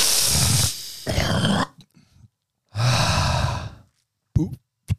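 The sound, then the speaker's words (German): A person breathes heavily and loudly into the mic, with several long, forceful, noisy breaths followed by a couple of short sharp gasps, imitating hyperventilation. “Das nennt man Hyperventilation.”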